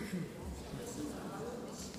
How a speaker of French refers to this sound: Ça résonne. Alors, vous entendez trop. Ça va. Bon, ils entendent bien. Il y a un écho. Donc. C'est l'écho divin.